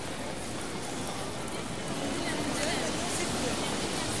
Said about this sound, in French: La foule y est dense.